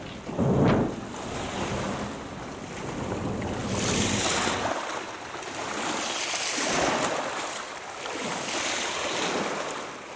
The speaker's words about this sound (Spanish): Es nuestro otro buque mercante que está abandonando la bahía de Puerto Argentino rumbo a mar abierto.